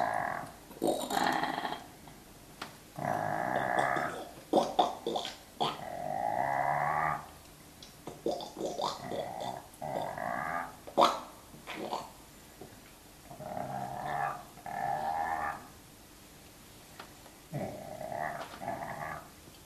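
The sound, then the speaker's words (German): A loud chorus of croaking edible frogs (Rana esculenta) performing a composed three-part song, with several rough, throaty calls overlapping in uneven bursts and short pauses between them. “Per Coaching wird die Partitur, ein dreistimmig gesetzter Gesang, den beteiligten Fröschen übersetzt.”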